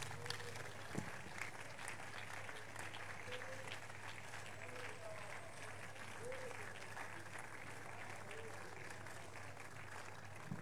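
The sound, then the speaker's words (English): An audience, rising to their feet, claps their hands for Jesus in steady, dense applause that holds for the whole stretch, with faint voices mixed in beneath the clapping. “Please give Jesus a big hand as you rise to your feet and keep clapping for Jesus.”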